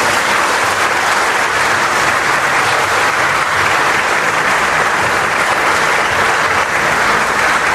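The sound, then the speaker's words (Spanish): A parish church audience in Mompox claps steadily for several seconds in honour of the Virgin Mary, a dense, loud wash of many hands with no break and no voices over it. “Y por eso le vamos a dar un amoroso aplauso.”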